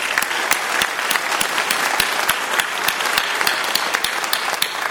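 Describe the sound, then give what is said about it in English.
An audience at a healthcare advocacy event applauds the organizers steadily, a dense, even patter of many hands clapping at a fairly loud level, with sharper individual claps popping out now and then and no voices over it. “I would like to give a round of applause to all of the organizers who helped pull this together.”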